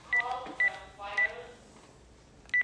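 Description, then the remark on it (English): A phone rings during a Bible study with short, high electronic beeps, four quick chirps at uneven intervals, clear over a faint background. “We had a phone call here, but we'll turn that off.”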